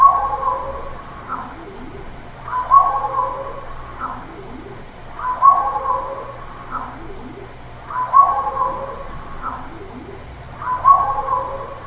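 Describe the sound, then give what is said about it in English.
A crow's harsh call sounds five times at even intervals in a looped recording, each burst the same nasal, raspy phrase, moderately loud, over a steady low background hum. “Okay, so the next one is clip 190, 221B, Crow Talker, five-time loop.”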